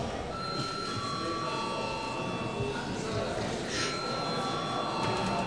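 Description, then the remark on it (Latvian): A parliament chamber bell, called for by the chair before the deputies' attendance registration, rings steadily for several seconds, a sustained high electronic tone with a buzzing edge, sounding over a constant low murmur of background noise. “Paldies, lūdzu zvanu.”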